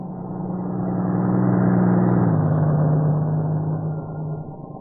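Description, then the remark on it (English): A truck from the plant at Maywood: its low engine drone builds in loudness over a couple of seconds, its deep humming tone dipping slightly in pitch midway, then holding steady with no voices. “If it's one of the trucks from the plant at Maywood, I'll be able to tell in a minute.”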